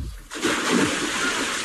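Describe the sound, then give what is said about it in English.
A sudden splash as little Jim is thrown into the water, followed by a sustained rush of churning, spraying water for over a second. “He fall in the water.”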